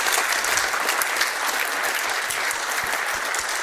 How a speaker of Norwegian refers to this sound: Det ikke flott? Jeg synes de fortjener en ny applaus, alle tre.